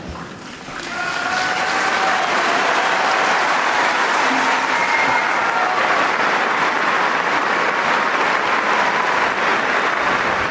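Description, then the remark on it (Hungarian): A large audience present for the Pope's catechesis breaks into loud, sustained applause, thanking the Holy Father. The clapping swells within the first second and stays dense and steady to the end, with faint voices and cheers mixed in. “Kedves hallgatók, a szokott módon nagy tapsviharral köszöntik a jelenlévők, és megköszönik a Szentatyának a katekézisét”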